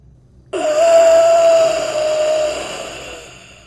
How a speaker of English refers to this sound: The man at the top snaps his neck in a disturbingly contorted way to look towards me, and gives out this ungodly gasp, like he was taking his last breath of air.